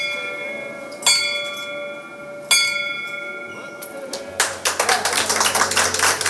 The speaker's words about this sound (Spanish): Y tomó como suyo el sueño que su hija había dejado a medias: instalar una campana en el hospital donde fue tratada, en Marbella. Una campana que sonara cada vez que un paciente superara el cáncer y recibiera el alta.